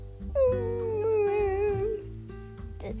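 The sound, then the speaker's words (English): A dog named Doggy at the Humane Society lets out a long, wavering howl that slides gently downward in pitch, followed by softer whimpering yips, all over a low steady hum of background noise. “Doggy, is that you?”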